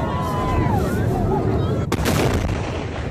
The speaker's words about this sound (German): So hat es sich angehört, als in der Nacht eine unbemannte US-Rakete beim Start explodiert ist. Noch ist nicht klar, warum. Verletzte gab es nicht.